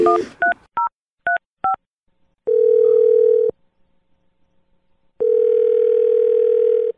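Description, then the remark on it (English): A quick run of touch-tone beeps as a phone number is dialed for a call from the radio show Brooke and Jeffrey in the Morning, followed by two long, steady ringing tones on the line separated by a pause of silence. No one speaks. “Let's just dial the phone number.”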